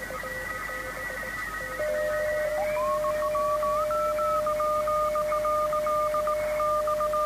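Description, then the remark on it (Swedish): CW Morse code tones from an amateur radio station, heard on a radio receiver: one steady held tone overlaps other keyed beeps in short and long bursts, some drifting in pitch, over a constant background hiss. No one speaks. “Och här var det en station som låg på samma ton.”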